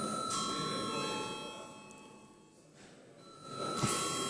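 A chamber bell in the Latvian Saeima rings steadily for several seconds before a vote on electing a deputy to the legal committee, a continuous electric ringing, with no one speaking over it.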